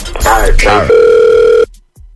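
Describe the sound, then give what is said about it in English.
A steady, loud telephone dial tone hums for under a second, abruptly cut off into silence, preceded by a brief burst of chirpy, sliding electronic tones or voice, on a call placed by the Get Up Crew of radio station Hot 96.9. “It's the Get Up Crew calling from Hot 96.9, the radio station.”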